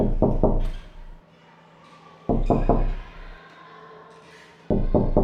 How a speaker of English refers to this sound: That's right, it was someone knocking on the door, and they were keeping a pattern, which is our music word that means rhythm.